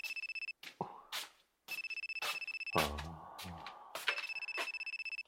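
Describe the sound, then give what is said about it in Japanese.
A mobile phone ringtone chirps in rapid repeating bursts, clear, cutting out briefly between rings while some low thuds and rustling movement break in partway through; it is the phone of the person being addressed, which the speaker forgot to dispose of. “ああ、君の携帯を処分するのを忘れていた。”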